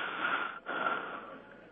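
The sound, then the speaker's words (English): Heavy, noisy breathing over a telephone line from a caller with a sinus problem, with one long breath, a brief pause, then another rasping breath. No one speaks. “I hear some heavy breathing or something.”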